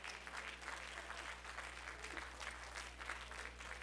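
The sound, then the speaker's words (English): An audience on their feet claps their hands in praise to the Lord, a dense, sustained wash of applause with a steady low hum underneath, no voices standing out. “If you love him, stand on your feet and give the Lord a hand clap of praise.”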